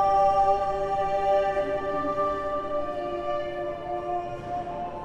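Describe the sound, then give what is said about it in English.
A large choir sings a forty-part Renaissance motet from around 1556, sustaining a rich, many-voiced chord of 40 different harmonies, the layered voices holding steady and blending into a full, resonant sound that swells slightly before settling, with no talking over it. “It's an amazing piece of music that has 40 different harmonies from around 1556.”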